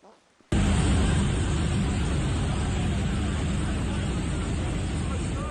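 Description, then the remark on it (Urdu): Iranian government helicopters hover over the city of Shiraz as smoke from fires set in several places fills the sky: a loud, steady roar of rotor and engine noise with a faint chopping pulse underneath. It starts abruptly after a brief quiet moment and continues without a break. “شوقیہ طور پر بنائی گئی ایک ویڈیو میں شیراز کے شہر میں گزشتہ 24 سے 48 گھنٹے کے اندر ایرانی حکومت کے ہیلی کاپٹروں کو فضا میں منڈلاتے ہوئے دکھایا گیا, جبکہ متعدد مقامات پر لگائی جانے والی آگ سے اٹھنے والا دھواں آسمان پر چھایا ہوا تھا.”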